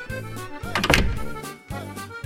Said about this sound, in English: Suddenly the door opened.